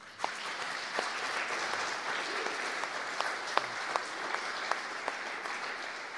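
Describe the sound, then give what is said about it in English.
Sustained applause from a church audience: a dense wash of many hands clapping steadily for several seconds, with a few sharper individual claps popping out above the steady patter. “And I think that deserves a clap.”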